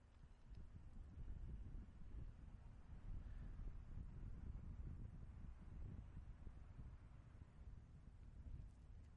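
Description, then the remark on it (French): A steady cold winter breeze blows across the microphone, a continuous low rumbling gust that stays fairly constant in strength for the whole stretch, with no voices. “La brise, hein, du vent.”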